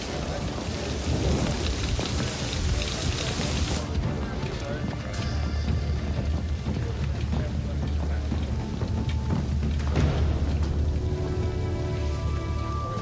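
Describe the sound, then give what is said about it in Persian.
Steady heavy rain hisses throughout while deep, rolling thunder rumbles underneath, swelling into a sustained low growl after the first few seconds and staying loud to the end. “یادتون باشه بارون سیاه نیست، ولی هر لحظه ممکنه بشه.”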